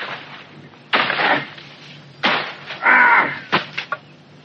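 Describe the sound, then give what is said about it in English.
An old cutlass hacks through a dense hedge, cutting it down, in several loud strokes at an irregular pace, each chop bringing a burst of rustling, crackling leaves and snapping twigs, with no talking. “There's nothing like an old cutlass when it comes to chopping things down.”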